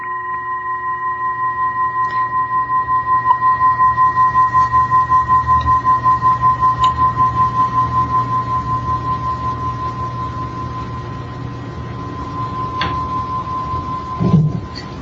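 A Tibetan singing bowl, made of a number of different metals, rings with one steady, sustained tone that wavers in slow, regular pulses, humming on unbroken without any voices before a brief soft knock near the end.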